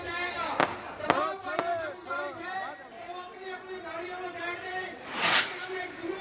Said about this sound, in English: Fireworks lit up the skies of Islamabad.